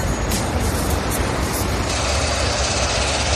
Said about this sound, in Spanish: Coches en punto muerto, helicópteros, es el sonido del puerto de Algeciras, en Cádiz, así suena esta operación, que va a estar en vigor hasta el 15 de septiembre.